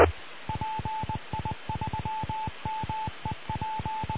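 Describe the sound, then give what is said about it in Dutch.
A radio repeater's end-of-transmission signal: a steady mid-pitched tone keyed on and off in a quick Morse-like run of short and long beeps over faint hiss, with no voices. “En op de achtergrond meldt de repeater ook dat we aan het eind zijn gekomen.”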